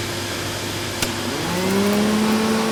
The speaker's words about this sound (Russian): Дим Димыч пылесосил в своей комнате, а фиксики, Симка и Нолик внимательно наблюдали за ним.